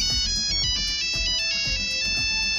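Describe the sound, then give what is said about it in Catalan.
A Nokia mobile phone ringtone plays its bright, quick melody of electronic notes over a steady rhythmic beat, loud with no voices. “I si heu tingut el mòbil amb aquesta sintonia”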